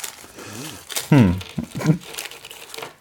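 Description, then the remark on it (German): Crinkly plastic wrapper rustling and crackling in short bursts as a fortune cookie is unwrapped, with people talking and exclaiming over it. “Ich möchte die Antwort so ein bisschen vorwegnehmen mit Unterstützung und dir einen Glückskeks schenken.”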